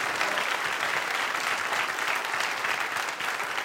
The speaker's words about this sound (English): Come on, let's give a hand clap to the Lord.